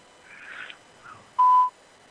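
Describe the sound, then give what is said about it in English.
A single loud electronic beep on a phone line, a steady mid-pitched tone lasting about a third of a second, preceded by faint muffled line noise and followed by quiet hiss. “Well, you just fucking beep in my ear, you son of a bitch.”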